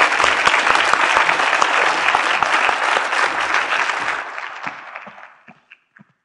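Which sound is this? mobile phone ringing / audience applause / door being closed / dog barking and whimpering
audience applause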